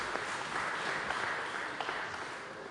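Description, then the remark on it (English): An audience claps steadily in a sustained round of applause for two people who have just shared, a dense wash of many hands with small irregular peaks, fairly loud and filling the whole moment with no voices on top. “Okay, let's give these two a round of applause.”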